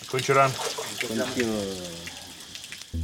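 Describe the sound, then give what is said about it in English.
Shower water runs in a steady, hissing spray during a person's first shower in three days, while a voice hums or sings over it in drawn-out tones, ending with a sudden louder low thump. “At a bare minimum, it's the first shower I've had in 3 days.”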